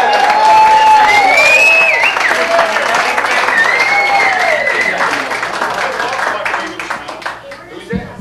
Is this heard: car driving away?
no